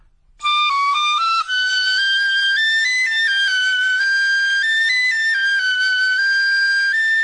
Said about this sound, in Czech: Za všechno může tahle tatařínská píšťala. Přivolala mi lásku.